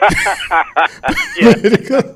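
A run of short coughing bursts, some breathy and some voiced, coming in an uneven rhythm over about two seconds with no speech.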